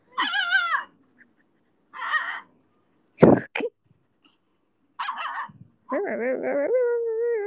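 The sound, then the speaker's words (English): A voice imitates a dog yelling: a few short, high yelping cries, a sharp breathy burst, then a longer, wavering whine-like howl, fairly loud with pauses between. “And his other dog was just like, "Ooh, human pet," and he would just yell.”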